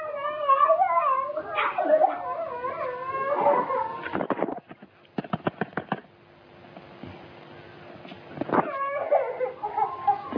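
A young boy heard over a phone call wails and whimpers in high, wavering cries, broken midway by a few sharp clicks and knocks before the sobbing picks up again.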